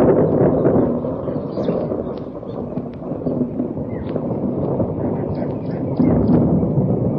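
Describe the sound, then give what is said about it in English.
Heavy thunder rolls on without a break, a deep, loud rumble with rough crackling texture that surges and swells again near the end. “And then the thunder came.”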